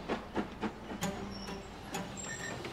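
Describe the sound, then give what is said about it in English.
A steam train runs along a single-track country line with rhythmic, uneven rattling beats over a steady low rumble, moderately loud, with no voices. “A steam train on a single-track country line.”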